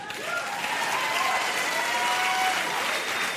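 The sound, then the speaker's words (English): Steady audience applause fills the whole clip, a dense wash of clapping at even loudness, with faint crowd voices and a thin whistle-like tone mixed in. “So, liberals, you can applaud that, or you can pretend this is just a fashion trend.”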